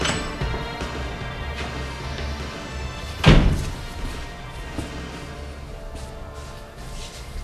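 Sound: door slamming shut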